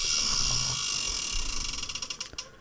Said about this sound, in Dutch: We gaan aan het rad draaien dat hier voor ons staat. Komt de letter op. Verzinnen we een naam.